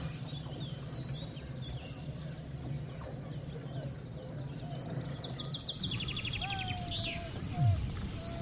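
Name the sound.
chorus of birdsong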